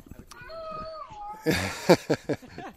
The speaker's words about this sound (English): And some unhappy children in the blocks around this courtyard, yes, which you might hear in the background.